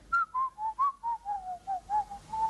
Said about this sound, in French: Hey, monsieur, sortez! On n'entre pas dans un bureau administratif en sifflotant. Allez frapper à la porte.